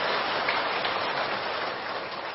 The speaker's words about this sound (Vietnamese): Xin quý vị hãy cho một tràng pháo tay thật lớn thật dài để cùng cảm nhận hạnh phúc ngay tại nơi đây.